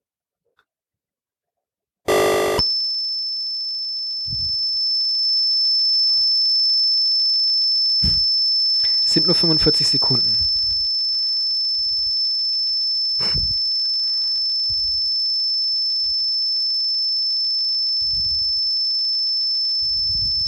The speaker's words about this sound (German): So, als Beweis dafür, dass das Spiel auch wirklich nur ein Kilobyte groß ist, werdet ihr jetzt Zeuge der wunderbaren Tonqualitäten des Ataris werden, der eben dieses Spiel auf Kassette reinladen wird.